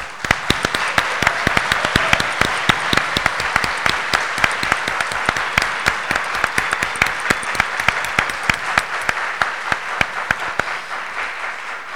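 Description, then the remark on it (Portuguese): Sustained applause from an audience at a UNESCO event, many hands clapping in a dense, steady patter with sharp individual claps standing out, fairly loud, fading slightly at the end. “Essa pessoa extraordinária, especial, generosa, sábia, cheia de qualidades e talentos, uma pessoa realmente rara e para quem nós da Unesco pedimos um caloroso aplauso.”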